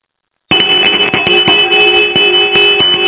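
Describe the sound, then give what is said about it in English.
A genuine Ding Dong School hand bell bearing the NBC network emblem is shaken and rings loudly and continuously, its bright metallic tone pulsing with rapid, steady clangs after a brief silence at the start. No one speaks. “I opened up the mail, and it was a genuine ding-dong school bell with the emblem on it and everything.”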